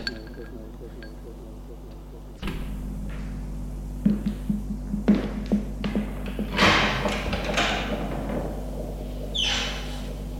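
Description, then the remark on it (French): A door being opened: a sudden thump, a few sharp latch-like clicks and knocks, then a brief scraping swish as it swings, over a steady low hum. “Une porte qui s'est ouverte.”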